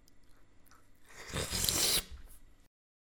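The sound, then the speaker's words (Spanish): A juicy bite into an orange in a palace while the monarch breakfasts in his bedroom: one wet, crunchy tearing sound lasting about a second, trailing off into faint moist chewing before silence. No one speaks. “Comenta Omar Said y le da un mordisco a una naranja.”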